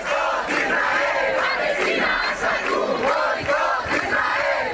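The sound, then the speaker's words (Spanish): A large protest crowd of about 10,000 people from Navarra and the Basque Country gathered in Pamplona, Spain, chants the slogan 'Gaza aguanta, el mundo se levanta' in unison. It is a dense, loud roar of many voices rising and falling in a steady rhythmic cadence throughout. “También bajo gritos de Gaza aguanta, el mundo se levanta, en Pamplona otras 10.000 personas de diferentes partes de Navarra y el País Vasco se han reunido para protestar.”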